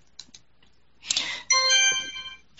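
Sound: phone notification chime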